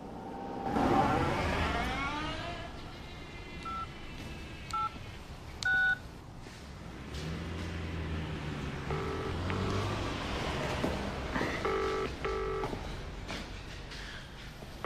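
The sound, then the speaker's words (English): A series of short electronic dial tones beeps out at uneven intervals as a man keys in a phone number to make a call, over a low rumbling background of engine or traffic noise, with no one speaking. “The moment he's gone, Kenny makes a call.”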